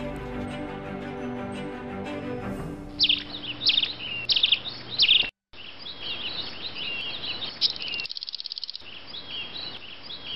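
Bright bird chirps and tweets ring out in quick bursts over a steady hiss, following a soft harmonic tone at the start; one brief silent gap breaks the chirping near the middle.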